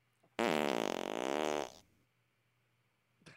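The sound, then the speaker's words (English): A single loud, drawn-out creak of an old chest lid swinging open, rasping and wavering in pitch for over a second, with nothing else around it. “Yeah, that's opening up an old chest of your grandfather's belongings.”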